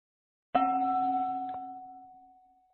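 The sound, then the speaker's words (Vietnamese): A single bell is struck once during a tea offering, ringing out clearly with a sustained metallic tone that slowly fades; a faint second tap lands about a second later. No voices are heard. “Với tiếng chuông và chén trà, hai tay dâng trước ngực, chúng ta từ từ đưa chén trà lên, chúng ta nhấp từng nhấp nhỏ, chúng ta cảm nhận miếng trà”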